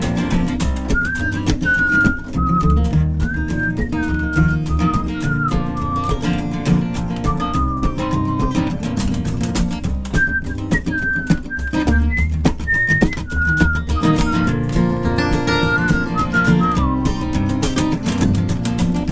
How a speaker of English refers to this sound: Go ahead and take a whistle song.